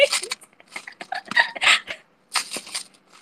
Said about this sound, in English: Yeah, I mean, can you hear like of the coin? Like it's so full, like you can barely shake it. Like it's full of coins.